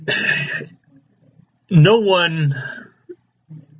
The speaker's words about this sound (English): I had to clear my throat there a little bit. I'm getting kind of choking in you guys' ear here.